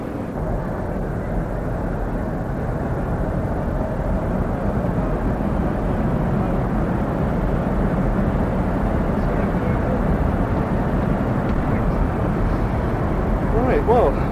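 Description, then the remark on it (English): A steady, loud low-frequency engine drone fills the cabin of an aeroplane in flight to New York, with a faint murmur of passengers' voices beneath it. “Passed a lot of sleeping bodies on this aeroplane.”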